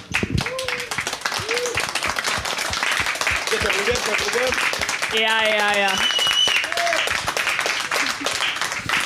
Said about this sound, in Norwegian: en applaus til bandet.